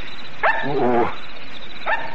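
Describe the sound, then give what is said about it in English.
Dogs barking: a sharp bark, then a longer, wavering howl-like yelp, and another bark near the end, with a steady hiss underneath. “It's them dogs.”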